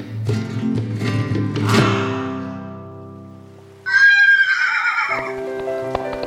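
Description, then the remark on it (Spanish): Hooves clop in a few sharp knocks at the start, fading away, before a horse lets out a loud, quavering whinny that breaks off into quieter rumbling and a final knock. “Martina se ha bajado del caballo, desconsolada por no poder encontrarse con Remedios del Valle.”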